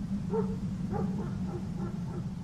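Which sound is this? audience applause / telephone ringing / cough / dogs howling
dogs howling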